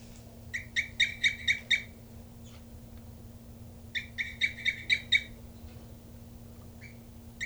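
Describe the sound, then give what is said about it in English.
A bird, identified as bird 3-3, coos off its nest, calling in two quick bursts of about six sharp, high chirping notes each, separated by a pause, over a steady low hum with no talking. “And this is bird 3-3 here, cooping off the nest.”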